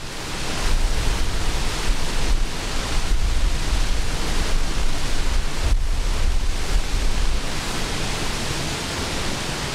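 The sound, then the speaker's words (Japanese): A steady, dense roar of falling water from Nachi Falls, a large waterfall with a 133-metre drop, loud and continuous throughout with no pauses, a broad rushing wash that fills the whole sound with no voices. “133メートルの落差を誇る那智の大滝です。”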